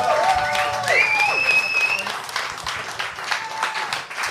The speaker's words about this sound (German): Und dann möchte ich herzlich willkommen heißen auf der Bühne und auch bitte mit einem großen Applaus.